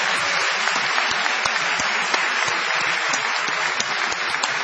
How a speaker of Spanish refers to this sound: Un aplauso para